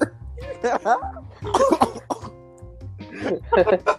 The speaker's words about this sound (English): Oh man, I choked. Pause. Oh my gosh. I choked.